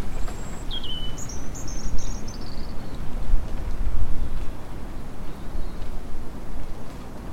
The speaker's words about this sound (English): Wind blowing, birds singing outside my nan's house, happy and free.